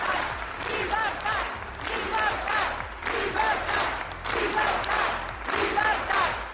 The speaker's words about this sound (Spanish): esto es lo que gritaban estos empresarios, pidiendo libertad para los políticos condenados que permanecen en prisión, eso por un lado.